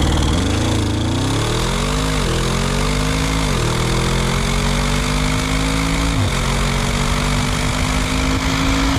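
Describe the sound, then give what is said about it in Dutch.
An Audi RS6 car engine runs steadily, its low drone rising and dipping as the revs change, with a coarse, mower-like rumble throughout and no talking. “Heb ik toch nog steeds een beetje een tractorgevoel bij? Of dat je je grasmaaier aan hebt gezet of zo?”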